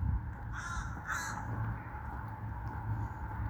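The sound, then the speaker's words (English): Two harsh crow caws ring out early, close together, over a steady low outdoor rumble, then the rest is just ambient background noise. “These birds and these squirrels are more free than they are.”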